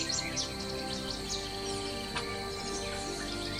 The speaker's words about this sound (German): Da finden auch die Vögel ihre Nistplätze. Zwischen den Zweigen lassen sie ihre Stimmen ertönen.